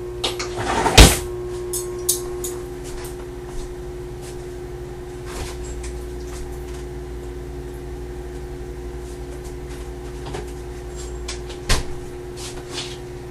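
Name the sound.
microwave oven running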